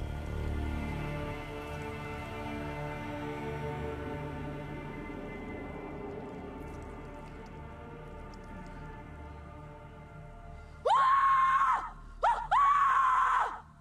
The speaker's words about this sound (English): That scream, that war cry. The war cry. I still get shivers.